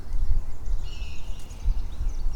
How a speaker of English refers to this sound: See, we got a lot of birds talking. We got a lot of birds signaling.